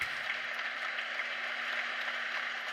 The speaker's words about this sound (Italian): Qui faccio ascoltare gli applausi.